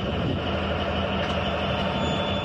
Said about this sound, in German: Die Lok steht jetzt im kleinen Bahnhof Friedenbeck im Verlauf der Strecke Stade-Bremervörde. Sie hat einen Düngemittelzug aus Tschechien hierhin gebracht und rangiert die Wagen nun in das Gleis an der Ladestraße.